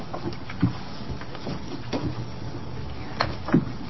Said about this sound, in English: If you'd like to pull up another chair, that'd be great.